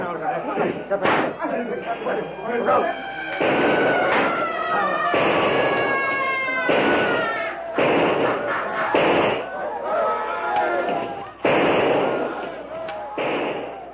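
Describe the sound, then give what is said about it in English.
A chaotic battle: repeated loud gunshots crack every second or two as a small group fires on shrieking, bellowing attackers who rush in and surround them, with dense, continuous commotion throughout. “Shrieking, bellowing, many now spouting blood from gunshot wounds, the yellow men rush close and surround the little group of whites as they stand fighting desperately for their lives.”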